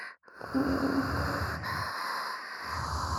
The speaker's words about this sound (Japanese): 本当だ。耳元でハーハーしてるだけで、おちんちん大きくなってる。